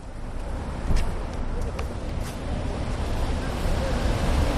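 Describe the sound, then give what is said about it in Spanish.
A steady, rumbling roar of ocean surf with gusty wind noise, swelling gently toward the end, with no distinct voices. “Te cruzan la calle y de repente escuchas y ves la inmensidad del mar y notas los rayos del sol en la poca piel que sale de las sábanas.”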